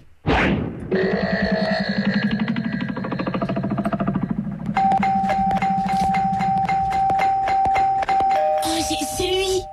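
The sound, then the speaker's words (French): A doorbell rung insistently in a distinctive pattern: a loud, sustained electric buzz, then a run of rapid pulsing rings over a steady tone, continuing without pause. “Je reconnais sa façon de sonner.”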